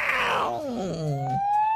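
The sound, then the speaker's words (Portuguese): A police car siren wails loudly in a neighbourhood of Porto Velho on a hot, sunny day, its pitch sliding steadily downward before a thin, high tone rises again; no one speaks over it. “Sirene da polícia, olha, olha, olha aí, ouve.”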